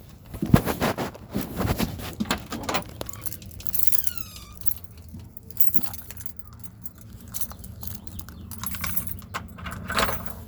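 Keys jangle in repeated metallic shakes and clinks, busiest at first, then settling into lighter scattered jingles over a low background hum.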